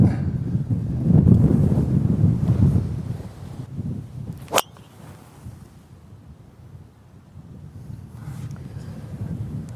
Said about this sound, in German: Gut, jetzt auf jeden Fall ein bisschen Wind von rechts. Ja.